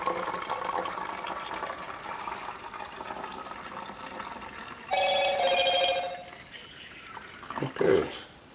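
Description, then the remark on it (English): A bright phone message alert chimes once for about a second, cutting in over the steady trickle of film stop bath being poured into a bottle, followed by a few soft clinks. “And that was just my phone. I got a message.”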